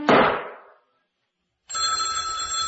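An old-style telephone bell rings loudly, and the first jangling ring fades out. After a brief silence a second ring starts and keeps going steadily to the end. No one speaks.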